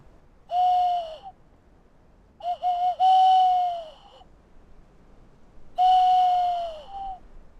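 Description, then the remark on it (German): Three drawn-out, breathy hooting notes played on a flute used as a sound lure, imitating a male tawny owl's call. The middle note wavers before steadying, and the notes are separated by short pauses with no talking. “einer Klangattrappe, einer Flöte, mit der er den Ruf des männlichen Waldkauzes imitiert.”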